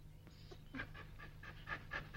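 A dog pants quickly and steadily, with a run of short rhythmic breaths close by over a low background hum. No one speaks.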